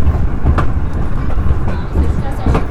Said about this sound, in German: Das ist übrigens nicht die Dampflok, was ihr jetzt hört. Das ist eine Flachstelle auf dem Rad von dem Wagen, in dem wir uns befinden. Und wir zuckeln hier noch so weiter Richtung Kandern.